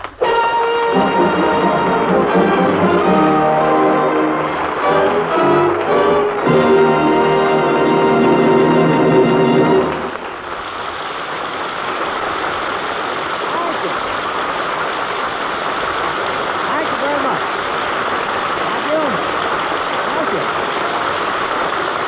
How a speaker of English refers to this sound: I wanted applause, but this is ridiculous.